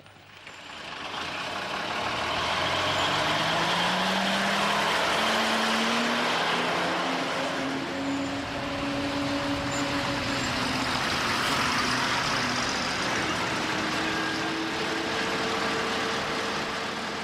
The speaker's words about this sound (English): It's the security zone's northern bases that form the front line against Hezbollah. We joined this supply convoy into the zone to see one of these bases.